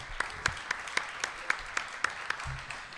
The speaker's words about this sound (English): Everybody give a round of applause again